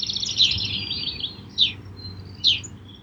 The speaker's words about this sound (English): Two studies show that hearing diverse bird songs may help increase our happiness.